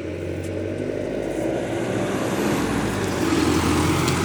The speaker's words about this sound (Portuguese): Porra, outro ônibus aí, peraí.